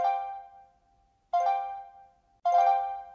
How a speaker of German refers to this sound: Ab jetzt schickt mir die App alle paar Minuten eine Benachrichtigung. Jede davon ist ein Hai.